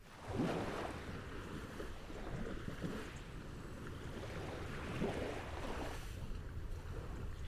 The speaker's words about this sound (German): Während das Gewässer seicht vor sich hin plätscherte und sich von der Wärme nichts annahm